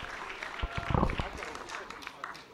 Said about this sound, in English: Hold the applause. Call them all up.